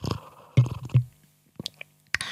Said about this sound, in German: wie ich die ganze Zeit meine, okay, Tee schlürfe.